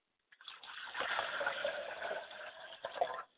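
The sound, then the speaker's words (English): Water is poured out as a libation in a steady, splashing stream for about three seconds, fairly loud, with small gurgles near the end before it stops abruptly. No one speaks. “I pour libations to Oladulamare”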